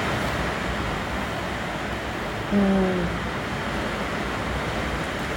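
A steady, dense hiss of heavy rain pours down without letup, with a short low tonal blip standing out briefly midway through.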